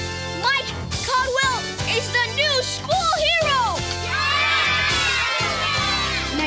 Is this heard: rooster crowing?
no